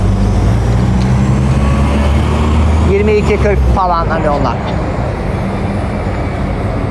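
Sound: street traffic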